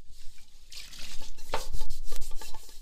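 Dishes being washed by hand by a 20-year-old student in her student accommodation in Zaria, Kaduna State, Nigeria: steady rubbing and scrubbing with splashes and drips of water, broken by a brief bright clink of crockery midway, with no voices.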